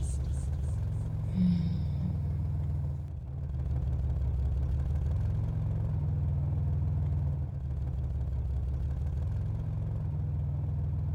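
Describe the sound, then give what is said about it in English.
A car engine hums steadily at a low rumble, dipping briefly once before settling back into an even idle that continues to the end, with no voices, as the car gently comes to a stop. “The car stops so gently, you barely notice it stopped.”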